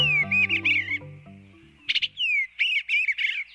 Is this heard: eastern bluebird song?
yes